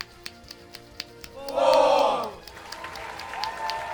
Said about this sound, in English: And the crowd is counting along to the number of times he's wasted his string shot.